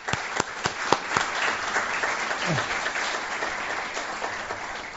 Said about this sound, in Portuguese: Peço para uma salva de palmas.